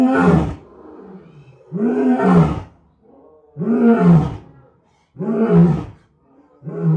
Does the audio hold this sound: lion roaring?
yes